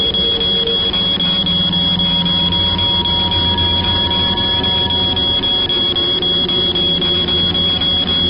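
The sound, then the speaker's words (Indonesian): A mobile phone alarm, left set from the day before, rings steadily at 3:30 and wakes a sleeper. A continuous electronic tone with a sustained high pitch over a dense, buzzing background, loud, with no one speaking. “Akhirnya aku terbangun mendengar suara alarm handphoneku.”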